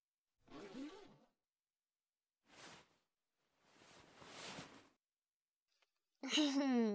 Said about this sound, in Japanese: チャック開けるね。